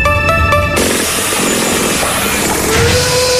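Power tools and modern equipment on a construction site with a concrete mixer: a high, pulsing motor whine cuts off into a steady, loud wash of grinding and rumbling machinery, with a rising whir near the end.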